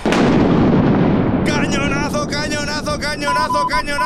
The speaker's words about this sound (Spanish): ¡Cañonazo! ¡Gordo! Lanzado por los ingleses, que ha impactado contra las murallas de la ciudad. La bola ha ido directamente contra la defensa española, abriendo un pequeño boquete